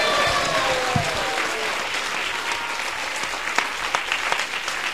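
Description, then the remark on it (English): Sustained audience applause at a kirtan, welcoming guest of honor His Holiness Prabhu Vishnu Swami Maharaj: a dense steady wash of many hands clapping at an even loudness for several seconds, with a few brief cheers or whistles early on and no clear speech. “Please give a big round of applause for His Holiness Prabhu Vishnu Swami Maharaj.”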